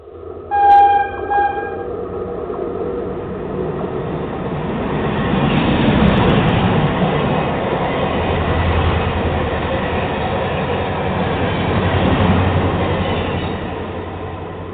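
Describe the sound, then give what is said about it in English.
A brief train horn blast opens, then a loud, steady rumble of a train rolling along the rails continues throughout with rhythmic clatter and no voices. It is an automatic intro sound effect, the "Trump train". “Looks like I had the automatic Trump train set up, and I forgot about that.”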